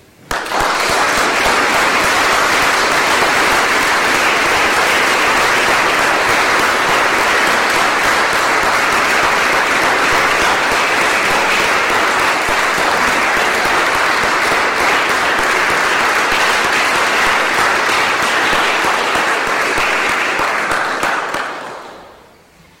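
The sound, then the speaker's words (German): Sustained audience applause for Klaus Schnorr after a ceremonial lecture, a dense steady wash of many hands clapping at even loudness for about twenty seconds before tapering off quickly at the end. No talking. “Und ich denke, dass deswegen sollten wir Klaus Schnorr alle einen ganz dicken Applaus zugeben.”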